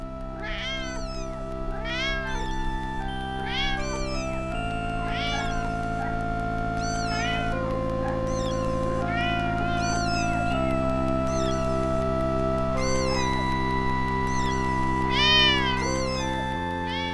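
Several cats meow again and again in a cattery at the SPA animal refuge of Tilloy-les-Mauflaines, near Arras, where cats with FIV (feline AIDS) and calicivirus are kept. Their rising-and-falling cries overlap over a steady low background hum. No one speaks.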